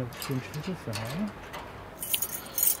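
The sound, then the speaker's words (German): A short jangle of keys near the end as a key for a household waste container is fetched, bright metallic clinks rattling for under a second, following a low murmuring voice at the start and a stretch of quiet background. “besorgt sich einen Schlüssel für den Hausmüllcontainer”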